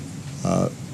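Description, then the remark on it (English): A single short sneeze from someone in the audience, a brief voiced burst that rises clearly above a low, steady background hum. “and I've been on this hobby horse now for 6 years, bless you.”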